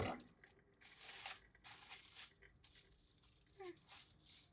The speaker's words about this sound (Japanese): これで水を入れたらいいんですね。